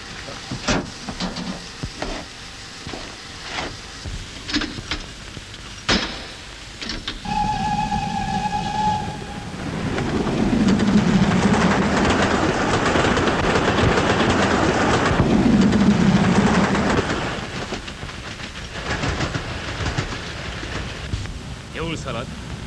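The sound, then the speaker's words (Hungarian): A train rolls along the rails with scattered clacks, a brief high tonal squeal, then a louder rumble that swells through the middle before easing back to a steady run. “Mennyivel jobban fog ütni az új mozdony?”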